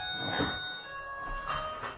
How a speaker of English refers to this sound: Is that someone's phone?